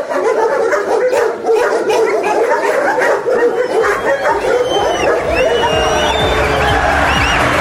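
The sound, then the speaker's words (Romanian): A pack of dogs, just woken, barks and yips continuously, several animals overlapping in a loud, chaotic chorus with some higher whines, as if agitated. “Băi, ai trezit câinii, moșule.”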